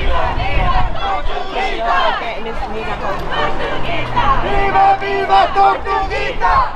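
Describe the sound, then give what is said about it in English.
A crowd of protesters at a Stop Cop City protest shouting and chanting "Tortuguita vive" together, loud overlapping voices rising in rhythmic bursts with a steady roar of noise beneath, continuing throughout without pause. “Tortuguita vive can be heard at Stop Cop City protests because they want to continue on Tortuguita's legacy by continuing to fight the construction of Cop City.”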